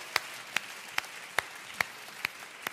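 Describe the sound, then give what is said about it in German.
An audience claps in unison to applaud Jesus, about seven sharp, evenly spaced claps at a steady beat, fairly quiet overall, with no voices over them. “Wollen wir Jesus einen Applaus geben, liebe Wunderwerkfamilie?”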